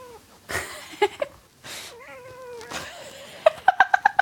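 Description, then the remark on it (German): A cat meows and yowls in a home office: a drawn-out, wavering cry, then a quick run of about six short, chirpy meows, with a few brief rustling bursts in between. “Aber Katze muss zur Corona-Zeit nicht drin bleiben, oder?”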